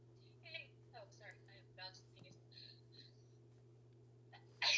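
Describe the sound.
A single loud, sharp sneeze bursts out at the very end, after several seconds of soft, muffled speech sounds over a steady low hum.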